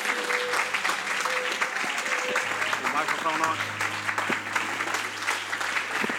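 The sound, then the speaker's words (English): An audience at a worship service claps their hands in praise in a dense, steady burst that lasts the whole time, with a low sustained tone humming underneath and a few voices calling out over the applause. “One more time, why don't we give him a good hand clap of praise?”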